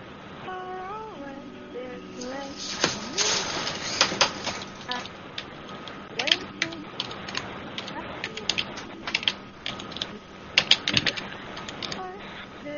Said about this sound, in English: Listen to that loud Mac keyboard. This is how loud it is in the Macs. It's the old keyboard.